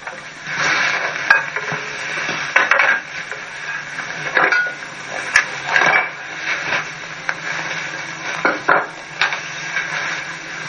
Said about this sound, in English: And I'm just going to kind of stir it up. You can see it's gotten a lot thicker.